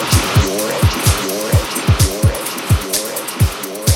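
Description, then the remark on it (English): A race car engine revs hard in a rapid series of loud, throaty bursts, each climbing and dropping in pitch, with some tire-squeal texture and no talking. “Ladies and gentlemen, start your engine.”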